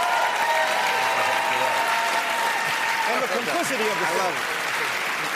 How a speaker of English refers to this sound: I love the way all the white people cheer for themselves getting thrown out of work.